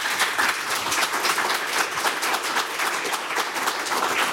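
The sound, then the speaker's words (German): Steady applause from a crowd, a dense wash of many hands clapping at an even, loud level throughout, with no voices rising above it. “Ich kann verstehen, dass Sie da mal kurz einen Applaus einflechten wollten.”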